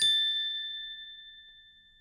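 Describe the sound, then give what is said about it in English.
A single bright magic-wand chime rings out alone as a wand is waved, a clear high ding that strikes sharply and then shimmers with a long, smooth fade over about two seconds. “"Bibbidi-bobbidi-boo," said the fairy godmother, waving her wand again.”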